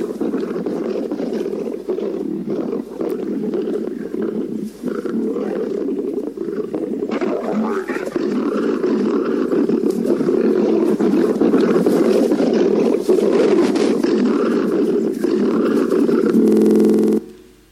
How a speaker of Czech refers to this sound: Máme zvuk? Jak takový rozuřený lev vypadá. Tady se teda pere s jiným lvem, ale jenom jsme si ho představili.